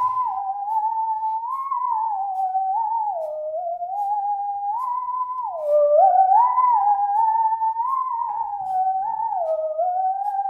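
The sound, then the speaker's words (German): A singing saw plays a slow, continuous melody, its pure, eerie tone sliding smoothly between notes with a slight waver, steady in loudness and swelling a little midway. No one speaks. “Die singende Säge kam vor etwa 11 Jahren dazu.”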